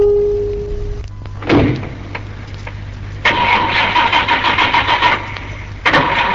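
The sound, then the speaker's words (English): A car door thuds shut, then an engine cranks to life and revs in loud, pulsing surges as the car pulls away, with no one speaking. “She's doing well for herself. A new car?”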